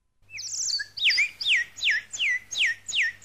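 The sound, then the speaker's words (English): Bird-like twittering chirps repeat in a steady run of about six quick, bright downward-sweeping notes, fairly loud, with no talking. “Oh, and it twitters like a bird too?”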